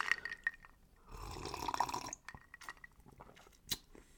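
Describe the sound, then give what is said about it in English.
A mint-flavoured drink is poured into a glass, a steady splashing fill lasting about a second, followed by a few small clinks and drips, with no one talking. “We got to get another sip going here.”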